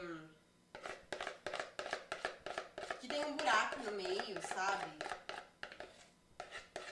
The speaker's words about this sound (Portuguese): E aí você vai puxando o que tá na tigela pra ir caindo na forma. A forma que eu tô usando, eu não sei o nome dela, na verdade, mas é aquelas próprias de micro-ondas, sabe?